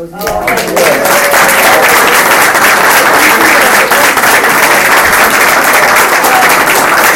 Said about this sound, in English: I'd just like to say one thing before we close, if we do that. I think we owe an enormous debt of gratitude and a round of applause